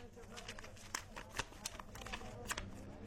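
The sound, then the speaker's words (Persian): Notebook pages being leafed through, with several quick papery flips and rustles in an uneven rhythm over a low background hum. “خود تو ببین یکی از کتابچه ها رو سعی کن.”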